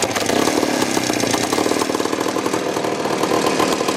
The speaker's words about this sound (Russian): все сняли с мотоцикла, то есть раньше мотоцикл «Восход», там «Минск», там «Колопланета». Снимали двигателя и ставили на эти дрезины